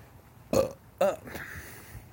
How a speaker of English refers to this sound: I burped.